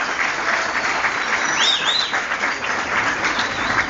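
Steady, dense audience applause fills the whole stretch, a continuous crackle of many hands clapping at even loudness, with a couple of brief higher whistle-like tones rising above it midway.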